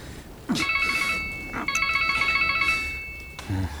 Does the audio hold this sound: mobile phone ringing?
yes